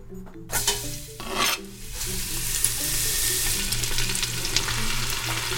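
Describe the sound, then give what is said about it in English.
A stir-fry is started in a hot pan. The food sizzles steadily with a dense crackling hiss that swells after a couple of short stirring bursts and then holds loud and constant, with a low hum underneath. “I'm starting the stir-fry.”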